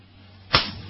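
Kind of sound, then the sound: human body sound, hand slap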